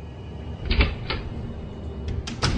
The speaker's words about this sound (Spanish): Después con la toalla seca el espejo y atusándose el pelo, abre otra vez la puerta que le separa del dormitorio.